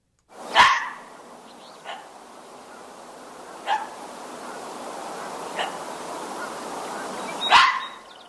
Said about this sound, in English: That's how a fox barks. We are talking about foxes.